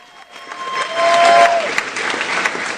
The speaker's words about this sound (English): I would like to bring up the executive director for the St. Petersburg Free Clinic. Big round of applause, everybody, for